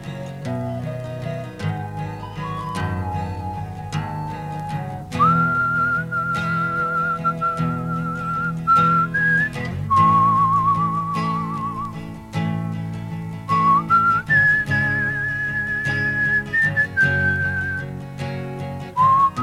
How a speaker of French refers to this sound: Et puis il siffla.